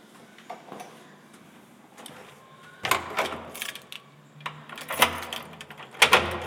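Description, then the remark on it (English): Mechanical clicks and clunks as the outer door beyond a shared vestibule is locked, a key turning and a bolt sliding, in a few sharp bursts with brief pauses between. “And this is the outer one.”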